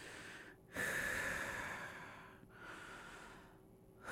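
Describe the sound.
A person does Ujjayi breathing, as practiced in yoga, slowly with a constricted throat, making a soft, hissing ocean-like rush on each inhale and exhale, two long breath cycles with brief pauses between.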